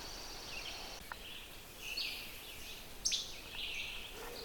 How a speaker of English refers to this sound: This rather mechanical sound is a bird song. It's a least flycatcher. I recorded a least flycatcher in a boreal woods where there was not this dominance of overstory that's deciduous.